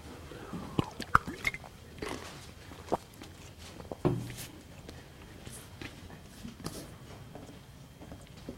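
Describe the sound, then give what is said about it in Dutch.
Someone takes a sip of water: faint slurps, quiet swallows and small clicks of a glass being handled, with brief louder taps near the start and middle, and no talking. “Dan neem ik even een slokje water.”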